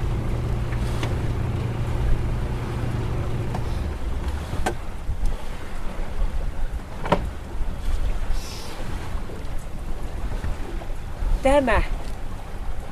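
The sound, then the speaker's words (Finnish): A sailboat's engine drones steadily for about four seconds, then is switched off once the sails are set, leaving wind and water wash with a few sharp knocks and a brief squeak. “Ja nyt panna moottori pois.”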